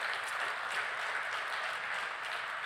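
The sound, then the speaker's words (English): An audience claps steadily, a dense, even wash of many hands that holds at a constant level for a few seconds, with no one speaking over it. “You can clap for that.”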